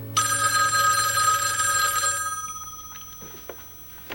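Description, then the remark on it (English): A telephone bell rings loudly and steadily for about two seconds, its bright metallic jangle then fading away, followed by a few faint clinks and small sounds. “You get it. Emma heads for the phone.”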